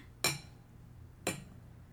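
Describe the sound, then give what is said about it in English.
Two sharp glass clinks about a second apart, each a bright ringing tap that fades quickly, as a person clinks their own glass. “You know what I could do is I could clink my own glass, and then you won't have to move at all.”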